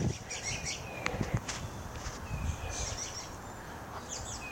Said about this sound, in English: And listen to those birds. Hallelujah. Good times. Spring is finally coming.